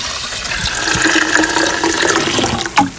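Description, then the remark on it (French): Filtered fermented plant liquid, diluted at 5-10%, pours steadily into a watering can for watering plants: a continuous splashing rush with a faint rising tone as the can fills, ending with a brief slosh. No voices. “Et ensuite, vous mettez 5-10% dans un arrosoir.”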